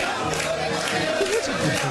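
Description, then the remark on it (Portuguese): A large crowd of Flamengo supporters sings a provocative chant mocking Palmeiras for having no Club World Cup title, a dense, steady roar of many voices with faint melodic lines rising through the noise for about two seconds. “É a música que estão cantando.”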